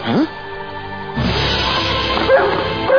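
A dog barks in short, excited bursts, a sharp yip at the start followed by more barking and whimpering over a busy, noisy background.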